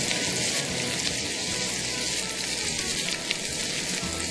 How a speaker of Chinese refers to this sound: 就是把这些材料就全部 放进去，先炒一下。 那现在你 炒一下爆香，然后再把牛肉放进去，放到锅子里面。